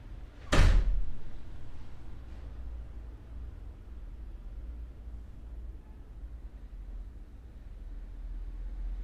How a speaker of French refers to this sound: Petit à petit aussi, on abandonne le fait de reconnaître, comme c'est une voiture, ce sont des gens qui parlent, c'est une porte qui tourne, mais on porte attention vraiment à ce que le son fait, non pas à nommer leur source.